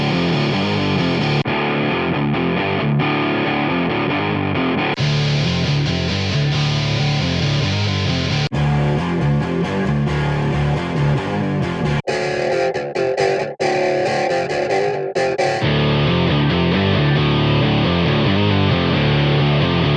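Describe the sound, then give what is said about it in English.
An electric guitar riff plays first clean, then through a series of iZotope Trash distortion plugin presets that shift its tone from gritty to heavily saturated, loud and continuous with abrupt changes between sections. “First you'll hear the straight guitar signal, and then you'll hear it processed through a variety of Trash presets.”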